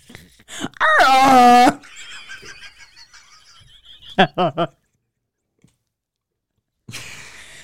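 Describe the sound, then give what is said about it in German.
As a dare in a game, a person imitates a rutting red deer stag with one loud, strained, wavering bellow, followed a few seconds later by three short guttural grunts, then a pause and a soft rustle. “Imitiere einen brunftigen Hirsch.”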